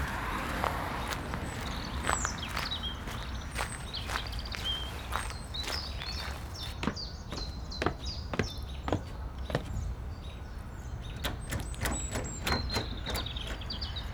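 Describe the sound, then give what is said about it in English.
Footsteps crunch along over steady outdoor background noise, followed by a series of sharp, irregular clicks and knocks as someone tries a locked house door that won't open. “I'm going to go check on that door.”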